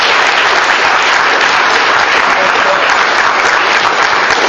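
Steady, loud applause from an audience, a dense wash of many hands clapping at once that holds evenly for several seconds without a break or any voice.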